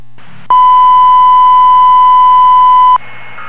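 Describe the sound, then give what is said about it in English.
A fire dispatch alert tone, set to alert all crews at a fire at 411 Wapalani Drive where police report about 20 oxygen cylinders: one loud, steady, high-pitched electronic tone holding for about two and a half seconds over a faint bed of radio static, with no voices. “Go ahead and set the alert tones, advise all crews on the scene of the situation.”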